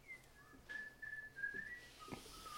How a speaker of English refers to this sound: I don't recall hearing you whistle when we were kids, old boy. Something new, is it? Your memory must be fading,